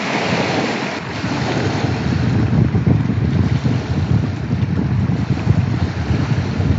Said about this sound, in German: Dazu hat er mir auch noch eine kurze Aufnahme von der Loch Ness-Brandung direkt vor seiner Tür zugeschickt. Hört mal rein.